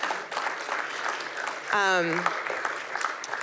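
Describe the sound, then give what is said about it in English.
An audience claps steadily in a dense, scattered patter of hands, with a short whoop or cheer rising briefly in the middle of the applause. “does someone want to clap? It does feel like you should clap, right?”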